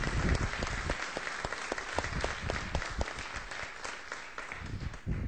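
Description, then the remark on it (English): A crowd applauds steadily for several seconds in appreciation of military veterans, many hands clapping together in a dense, sustained patter at moderate volume, with no speech over it. “Let's give a clap of appreciation there.”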